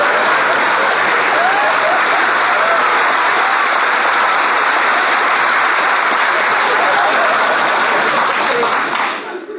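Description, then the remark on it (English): Loud, sustained audience applause after someone sings altered "Jingle Bells" lyrics about the South, a dense wash of many hands clapping at once, holding steady for nearly ten seconds before starting to taper off at the very end. “got more applause than I do.”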